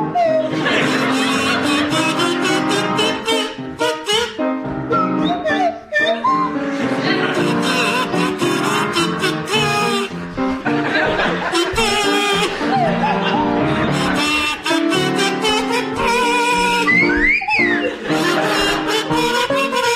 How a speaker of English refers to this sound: Now you, Tim and Sandy, would you please perform Who Wants to Be a Millionaire with Sandy Toksvig on kazoo and Tim Brooke-Taylor on Swanee whistle?